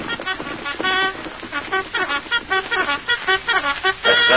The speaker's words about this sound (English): Reveille. The camp will be awake very soon.